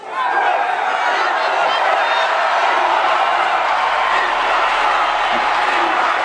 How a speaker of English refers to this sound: The crowd urging Cruz to endorse Trump, which he hasn't done yet.